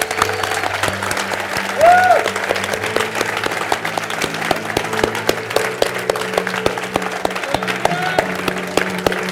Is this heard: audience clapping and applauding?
yes